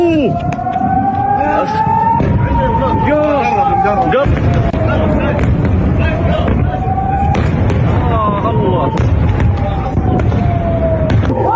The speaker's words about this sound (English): But I want you to hear a clip of sound of what it's like if you're in Iran and U.S. missiles are raining down like hell.